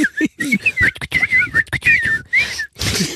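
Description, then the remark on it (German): A person whistles a fast, warbling run of bird-like calls, trilling and sliding up and down in short bursts, fairly loud with brief breaths between phrases. “Jetzt empfehlen wir uns auch noch mal ein paar Vögel zu synchronisieren.”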